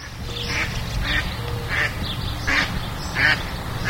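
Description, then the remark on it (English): Mallard ducks quack repeatedly in short, nasal bursts, about six calls spaced across a few seconds, over a steady low rumble of background noise. “Mallard ducks are one of the most common ducks around, but the reproduction rate for the duck has been declining as people move nearer to the places where they nest.”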